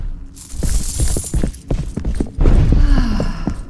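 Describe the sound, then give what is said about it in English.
Rapid, frantic running footsteps pound across a hard floor, echoing through a huge hall of a lair, loud, with a brief pause before the hurried steps resume. “The adorable pitter-patter of frantic footsteps rushing through the gargantuan hall of my lair.”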